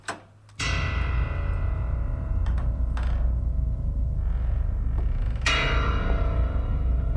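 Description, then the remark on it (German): A door opens with a sharp metallic clunk, followed by a steady low rumble and a few further knocks and latch-like clicks, fairly loud, with no one speaking. “Dann öffnete sich die Tür.”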